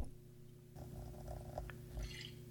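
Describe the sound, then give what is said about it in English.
A vodka drink is poured over ice and fizzes, with a soft crackling texture that builds and a brighter hiss near the end, all over a steady low hum. No one speaks. “A lovely fizz.”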